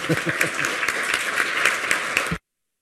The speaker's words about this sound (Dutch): Nou, een applaus mag wel, hoor.